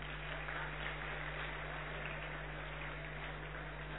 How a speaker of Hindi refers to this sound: इन सभी बच्चों के लिए ताली बजाएंगे।